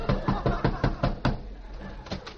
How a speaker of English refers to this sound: Well, here's Daisy June's house. I'll go up and rap on the door.